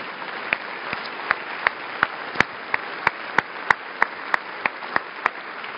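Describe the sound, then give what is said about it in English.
An audience claps steadily for several seconds, a dense wash of hand claps with a few sharper, louder claps standing out at irregular intervals. “I think you ought to clap.”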